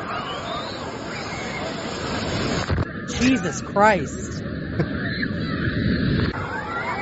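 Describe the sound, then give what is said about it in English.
A steady roar of surging water from a wave pool at Typhoon Lagoon water park in Disney World fills the scene, with a busy crowd chattering throughout and a few voices calling out. “This is a can I play water the park audio? In Disney World.”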